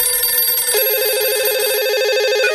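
A telephone rings over the call line of the science program Korak ka nauci, calling the Petnica research station: a loud electronic ring with a rapid warbling trill and steady high tones, continuous throughout, with no voices.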